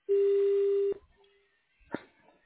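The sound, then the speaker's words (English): A single steady voicemail beep on the Samaritan Valley Imaging voicemail, a flat mid-pitched tone held loud for almost a second, then cut off. A faint line click follows a moment later. “Please leave your name, phone number, and a brief message after the tone.”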